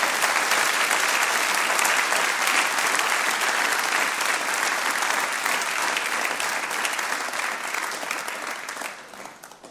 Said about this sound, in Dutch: Laten we gewoon op dit moment even een applaus geven om deze mensen te eren.